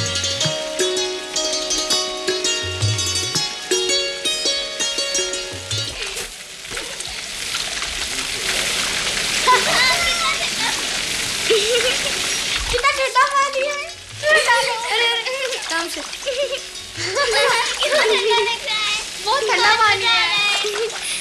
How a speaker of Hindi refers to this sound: उछलता कूदता पानी कितना सुंदर लग रहा है। इतना सारा पानी आया कहाँ से?